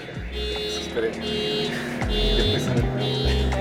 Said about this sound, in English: Okay. We waited a bit for the noise to settle down, but nope. The honks kept on blaring. So obviously we relocated and tried to start over.